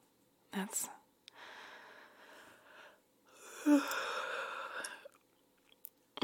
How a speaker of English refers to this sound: I'm sorry for making you yawn too. I'm just so sleepy.